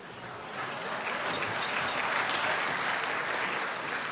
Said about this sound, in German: Haben Sie das gemerkt? Der Applaus vorn war dünn, nicht?